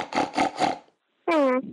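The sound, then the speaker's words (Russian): A person imitates a pig with three rough, snorting grunts in quick succession, then after a short pause gives a brief voiced, slightly falling squeal. “А я еще лучше умею хрюкать. Я хрюкаю вот так.”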